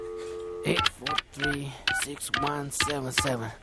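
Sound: telephone number being dialed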